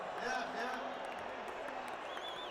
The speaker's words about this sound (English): Hey, quit booing your fellow brother. He doesn't know the evil of his ways.